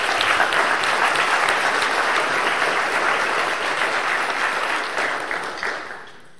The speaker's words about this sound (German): Andere von euch haben eine unglaubliche Freude daran, so eine Wahnsinnsalldekoration hinzukriegen. Ich finde, es ist mal ein Applaus wert für die Leute, die das gemacht haben.